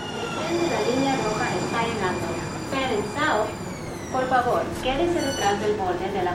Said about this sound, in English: That's a sound you don't hear very often in Texas right now, a train. This one is coming into one of Houston's light rail stations. The whole network is only about 10 years old.